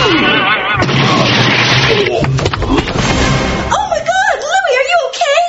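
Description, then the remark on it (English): A hard, crunching punch smashes into a man's jaw in a loud burst of impact noise, then the man cries out in pain with a wavering, strained voice. “You hit him so hard. You smashed his jaw.”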